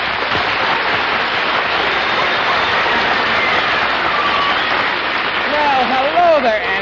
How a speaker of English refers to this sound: Thank you for the generous applause.